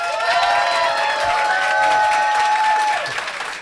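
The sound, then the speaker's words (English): A live show audience cheers and applauds loudly to vote for a contestant as the night's winner, with dense steady clapping and high whoops and shouts that hold for several seconds before easing off slightly at the end. “So, if you believe that Dave won, please cheer now.”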